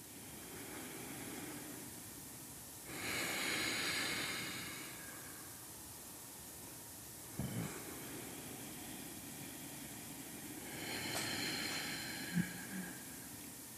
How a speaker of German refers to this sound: dass wir zuerst einmal gemeinsam atmen. Das können wir, dass wir bis 4 ungefähr einatmen und bis 7 aus und das so lange, bis sich das Nervensystem ganz ruhig anfühlt. Und wir atmen ganz natürlich dabei.